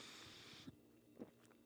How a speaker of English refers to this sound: Hold on, let me take a sip of this fine Tecate.